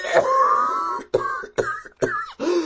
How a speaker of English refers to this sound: A fit of coughing interrupted Kazul in mid-sentence.